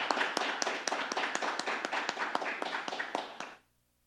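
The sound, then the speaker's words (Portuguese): A crowd at a tribute ceremony in a municipal council applauds the honoree with brisk, steady clapping, many sharp hand claps blending into a dense patter for about three and a half seconds before cutting off into silence. No one speaks. “Pedimos uma salva de palmas ao homenageado.”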